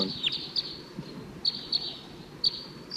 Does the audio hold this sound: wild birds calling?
yes